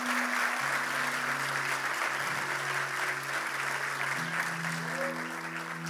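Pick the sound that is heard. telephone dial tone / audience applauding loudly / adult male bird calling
audience applauding loudly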